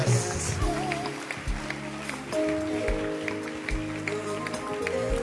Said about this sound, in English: Clap your hands. Clap your hands. Clap your hands. Clap your hands. Keep clapping.